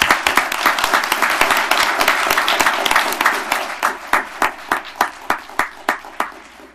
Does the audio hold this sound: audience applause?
yes